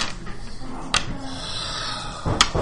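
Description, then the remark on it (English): Dice clatter onto a table during a dice game in two brief bursts, a sharp rattle about a second in, then a louder scatter of clicks near the end, over a quiet background murmur. “So grab more dice.”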